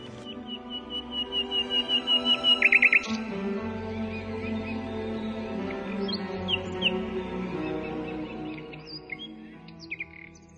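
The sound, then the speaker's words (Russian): A nightingale sings, opening with a quick run of repeated notes that swell louder, then breaking into varied whistles and trills over a steady, soft musical background. “«Первый соловей»”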